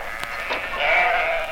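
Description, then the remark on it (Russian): A karakul sheep lets out a wavering bleat that swells and holds for about a second, preceded by a couple of faint clicks, with no voices. “Каракульская овца в нашей стране занимает колоссальные территории в республиках Средней Азии и Южном Казахстане.”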